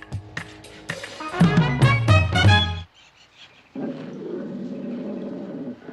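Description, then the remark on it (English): A tiger in a cave lets out a loud, throaty roar that swells and breaks off, then after a brief pause rumbles into a lower, steady growl, with no voices. “Paul leaps up, pressing himself against the rocks in terror as the tiger lopes into the cave towards him”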